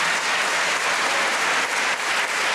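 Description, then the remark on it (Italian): Sustained applause from a crowd for those who prepared the occasion, the choir and the altar servers: a dense, steady wash of clapping that stays loud and even throughout with no voices on top. “Permettetemi soltanto, facciamo anche un grosso, unico, grande applauso a chi ha preparato questi momenti, al coro, a chi è servito all'altare.”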